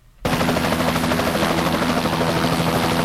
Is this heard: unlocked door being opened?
no